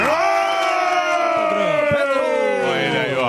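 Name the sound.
audience applause and cheering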